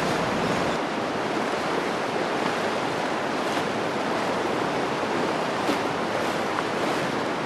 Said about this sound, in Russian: Ну а главной причиной такого потока является то, что ширина залива, куда впадает река, составляет около 100 километров, а само устье сужается до 3 километров, в результате чего огромные водные массивы, попадая в узкое русло, формируют приливную волну